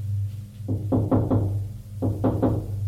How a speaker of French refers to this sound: On a frappé à la porte.